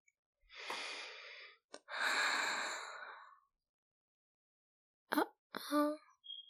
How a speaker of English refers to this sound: I wasn't doing anything. I mean, I just was taking a little sniff. That's all. I mean, they smell so good.